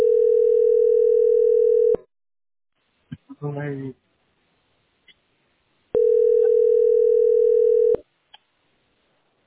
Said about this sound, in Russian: Подожди, кто-то звонит, не могу как из этого избавиться.